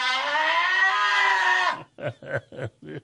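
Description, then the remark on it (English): A person imitates a goat with one long, wavering nasal bleat, followed by four short, choppy bleats in quick succession, loud. “Good goat sounds.”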